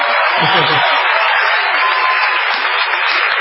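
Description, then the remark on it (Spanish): A theater audience at the Teatro Municipal in Bahía Blanca, at La Venganza Será Terrible, roars and cheers loudly, a dense wash of shouting voices and applause that holds steady for a few seconds with no single voice standing out. “Sí, pueden gritar.”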